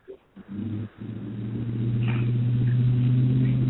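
A caller's truck engine revs over a phone line as he gives it gas, a low droning rumble that starts in short bursts and then swells into a steady, louder roar with no one speaking.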